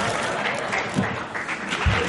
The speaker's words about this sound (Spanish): Un fuerte aplauso para...